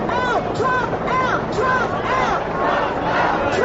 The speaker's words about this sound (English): Outside Sydney Town Hall, Venezuelans and supporters gathered for a hands-off Venezuela rally. Protest chants competed with a police helicopter circling above.